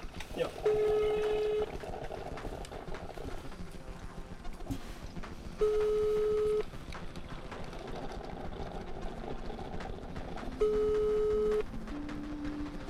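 A phone ringback tone sounds three times in steady, evenly spaced one-second bursts, moderately loud, over a continuous low background murmur, as a director places a phone call.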